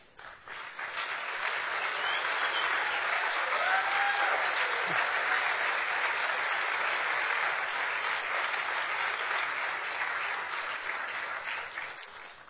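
Sustained audience applause, a dense steady wash of many hands clapping that swells in quickly, holds loud and even for about eleven seconds, then begins to taper at the end.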